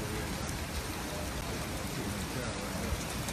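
Steady, dense rain hisses without a break, a continuous wash of droplets pattering on a surface, even in loudness throughout, with no voices over it.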